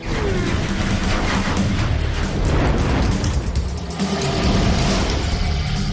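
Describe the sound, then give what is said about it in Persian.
A sports car engine with an 8-speed automatic gearbox roars steadily and loudly, its exhaust growling with dense low-end rumble and rising revs, and no voices. “گرچه به نظر بعضی‌ها صدای بلند و تهاجمی نوت اگزوز کمی غلط انداز بود.”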